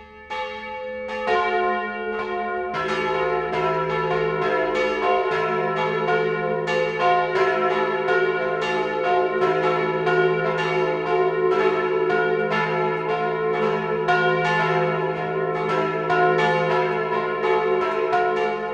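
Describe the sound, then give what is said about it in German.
Several church bells ring together in the full, continuous 12 o'clock noon peal in Feldkirchen, Straubing-Bogen district, Lower Bavaria. Their overlapping strikes form a dense, rich clangor that stays loud and steady throughout, with no voices present. “Das Mittagsläuten kommt heute aus Feldkirchen im niederbayerischen Landkreis Straubing-Bogen.”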